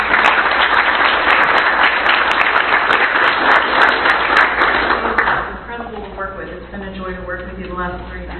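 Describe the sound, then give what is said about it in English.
People clap steadily for about five seconds to honour a colleague retiring after 25 years, a dense, loud patter of many hands, then it fades as a man begins speaking over the last scattered claps. “so let's give her a round of applause for that.”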